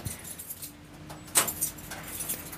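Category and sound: household object, keys jangling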